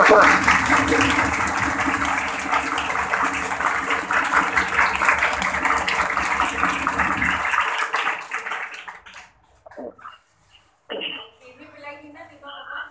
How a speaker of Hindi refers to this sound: संगत के लिए मेरी तरफ से तालियां।